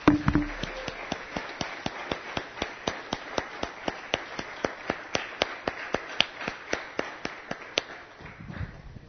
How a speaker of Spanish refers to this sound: Póngase de pie, hermanos, ustedes dos, junto con las hermanas. Vamos a darle un aplauso a estos hermanos.